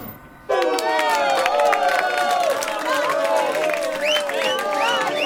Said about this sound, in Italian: Applausi ragazzi, ho messo anche applausi nelle canzoni, oggi facciamo tutto oggi con le canzoni.